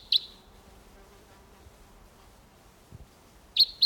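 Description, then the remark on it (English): A wild bird calls with short, high-pitched chirps: one at the start, then a quiet stretch, then two quick chirps close together at the end. No one speaks. “I have two coming in here. Different bird.”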